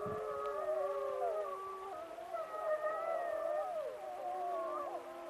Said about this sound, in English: In the middle of my interview with Carl Swoboda, the Yellowstone wolves began to howl. And the wolves are howling right now. Wolves are howling right now. I'm just going to try and see if I can catch that.